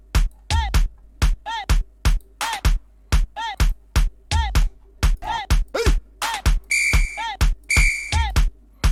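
A looping electronic music sample of punchy, evenly spaced hits, with two sustained high whistle tones rising out of the beat near the end, each lasting about half a second.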